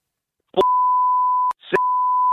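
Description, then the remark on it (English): Two loud, steady censor beeps, each nearly a second long with a short gap between, cutting in abruptly over clipped fragments of someone speaking, bleeping out a phone number being read out. “Actually, just no, give it to us now and we'll beep it.”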